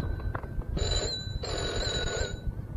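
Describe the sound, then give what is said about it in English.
A telephone bell rings in two bursts of rapid metallic trilling, separated by a short pause, heard at moderate volume over a faint background hum with no talking. “I have to get the phone.”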